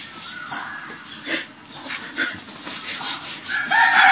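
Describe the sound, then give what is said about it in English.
Several chickens squawk and cluck in short tonal bursts, then a rooster breaks into a loud, sustained crow near the end. No one speaks. “These chickens.”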